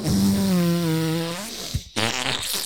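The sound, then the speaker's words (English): A long, loud, buzzy fart with a low droning pitch that sags slightly, then a brief gap and a second, raspier burst of flatulence. No one speaks. “Do you want to let a stinker rip out?”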